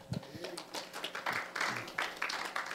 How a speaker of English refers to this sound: Amen. Let's give him a big welcome clap.